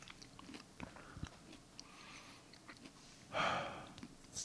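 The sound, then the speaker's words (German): Soft mouth smacking while chewing: scattered wet clicks and pops at an irregular pace, with a brief louder breathy rush near the end and no talking. “Ich schneide meine Schmatz einfach raus.”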